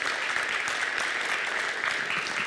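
audience clapping

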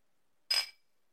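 glasses clinking

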